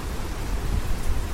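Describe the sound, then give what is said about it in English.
Steady rain pours down during a windy storm in a dense, even hiss, with a low rumbling undertone; constant throughout, with no voices. “All right, it's raining now.”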